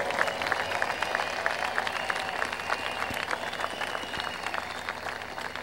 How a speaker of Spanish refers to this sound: Quiero, entre paréntesis, hacer un reconocimiento especial y pedir un aplauso de todos para el comité organizador de este festival. Se merecen un aplauso y una ovación de todos nosotros.